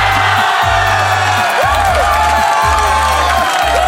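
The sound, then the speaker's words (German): Hundreds of handball fans at a public viewing in front of a giant screen outside a sold-out sports hall cheer and roar continuously as their town wins the championship title, with whoops and shouts rising above the dense wall of voices, while a steady low rhythmic thumping, like a drum or chant beat, pulses underneath. “Ja, so klingt es, wenn eine handballverrückte Stadt den Meistertitel holt.”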